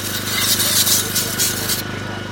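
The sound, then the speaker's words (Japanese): A dedicated motorized sharpening machine, worked by a craftsman at a market, grinds a rusty kitchen knife blade with a steady low hum and a harsh, scraping hiss that swells in pulses, then the high grinding cuts off abruptly near the end. “包丁を職人さんが研いでいます、おお、なんかかっこいいね、お、サビサビです、サビサビですよ、サビサビの包丁が、お、もうあっという間じゃん、ヒカヒカ、もう初めて見ましたね”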